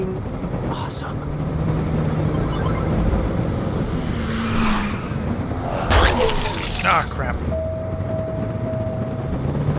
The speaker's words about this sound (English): So yeah, the sound is... Whoa. There's a lot of cars.